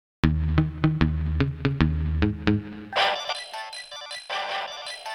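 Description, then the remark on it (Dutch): A phone's text message alert for an SMS from a mother rings out loud: a quick run of about eight bright plucked notes, followed by a denser, shimmering electronic tone. No one speaks. “Van wie is die sms?”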